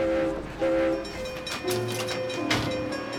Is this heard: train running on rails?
yes